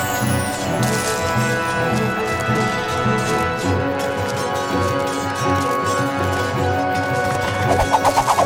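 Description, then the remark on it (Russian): A loud, dense battle din with crashing impacts and what sounds like galloping hooves of mounted riders shooting arrows, with arrows flying in all directions. It is continuous throughout, swelling with sharper rhythmic hits near the end. No one speaks. “О, стрелы так и летают во все стороны. Как стреляют всадники, я вижу.”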